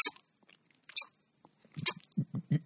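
Someone crunching and chewing candy: three sharp, crackly crunches spaced about a second apart, then a quick run of softer, muffled rhythmic chews, with no talking.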